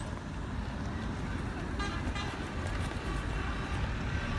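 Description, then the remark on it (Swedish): A steady rumble of heavy vehicles rolls past as a convoy of red and white fire engines drives at normal speed through Falun, sounding their horns in a few short, overlapping toots midway, over continuous road noise. “Röda och vita brandbilar som kommer åkande i vanlig hastighet i karavan, alltså i led kommer de åkande och tutar.”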